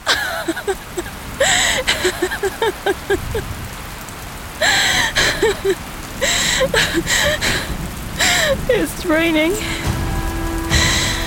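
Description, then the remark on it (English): Steady rain patters and hisses on hard surfaces throughout, fairly loud, with brief wavering vocal sounds like whimpers or gasps rising over the downpour now and then. “It's raining.”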